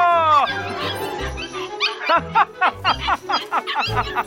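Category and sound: animal, puppies barking and yipping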